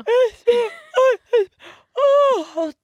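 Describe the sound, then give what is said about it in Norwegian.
A person deliberately yawns out loud, a series of short voiced, groaning breaths building into one long drawn-out yawn with a falling pitch, otherwise quiet. “Når jeg skal få mine barn til å sovne fort, så gjesper jeg.”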